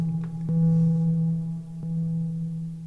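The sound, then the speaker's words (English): A steady, low synthesizer drone hums on with a few faint clicks and repeating blips, a delay echo tail running out at moderate volume after the free-running sequence was stopped, with no voices. “It's just gotta run the echo out.”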